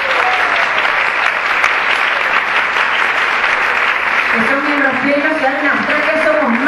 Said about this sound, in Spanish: Esa fue una experiencia que quería compartir y pido un aplauso entonces para Costa Rica y Puerto Rico.